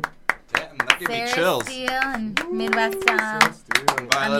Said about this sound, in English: That was guys, can we get a fucking round of applause